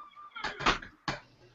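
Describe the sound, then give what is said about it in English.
A door creaks with a thin, drawn-out squeal, followed by a couple of short, rough scraping knocks as it swings and settles. No voices, just the door. “That was a creepy door.”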